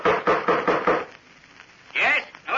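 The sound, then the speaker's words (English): A heavy bronze door knocker bangs on the front door of an ancient house about six times in quick, steady succession, loud, then falls silent before a brief, higher burst of sound follows. “2 moments later, they banged the old bronze knocker on the front door of the ancient house.”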